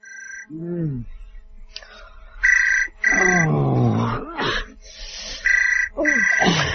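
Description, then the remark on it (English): A telephone rings in repeated double bursts, a bright, steady electronic trill, while low croaking, groaning vocal sounds rise and fall between and under the rings. “Phone!”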